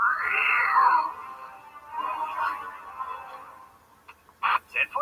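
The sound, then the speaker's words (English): A cartoon cat, Cat Cop, about to pounce, lets out a long, drawn-out meow, followed by a softer second yowl, then a few brief scuffling clatters. The cat is fairly loud, with no talking over it. “Cat cop about to pounce!”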